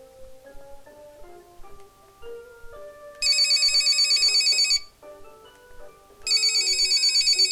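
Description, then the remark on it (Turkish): Over a light, plinking melody, a telephone bell rings loudly in two bursts of rapid, bright trilling, each lasting over a second, with a short pause between them. “Ve telefonu duyuyor.”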